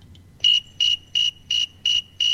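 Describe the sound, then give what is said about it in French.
A snowy tree cricket chirps at 24.8 °C in a steady, even rhythm, six clear pulsing trills about a third of a second apart, fairly loud over a quiet low rumble. “Et on peut entendre ce qu'il produit à 24,8 degrés. C'est un grillon qu'on en trouve notamment en Amérique du Nord.”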